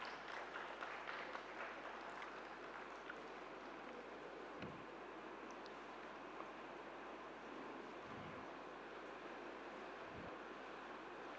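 A crowd claps steadily to welcome guests coming on stage, producing a dense, continuous wash of applause that holds at a moderate level throughout without any voices breaking through.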